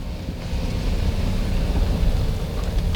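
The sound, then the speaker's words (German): A car rolls in and stops in front of the rubbish bins at a building on Diamond Street, number 7, its engine a steady low rumble, with no voices and no pause in the droning noise. “Stell den Wagen dort vor den Mülltonnen ab”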